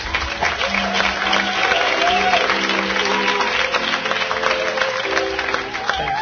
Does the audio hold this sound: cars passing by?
no